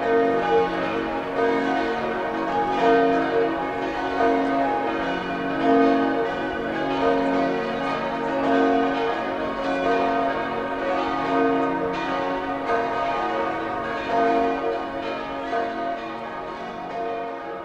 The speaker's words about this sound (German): Seit 1950 läuten in Admont 7 in St. Florian gegossene Glocken.